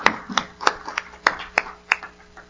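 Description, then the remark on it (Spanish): Hands clap together in a steady, even rhythm, about eight sharp claps in under three seconds, fairly loud, with no one speaking over them: applause to God after a prayer. “Un aplauso a nuestro Dios.”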